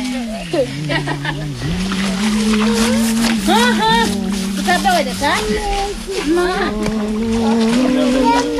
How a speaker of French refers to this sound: Trois petits enfants noirs. Avec les femmes qui sont en train de laver dans cette rivière. C'est le jour de lessive aujourd'hui. Et on lave les enfants aussi aujourd'hui.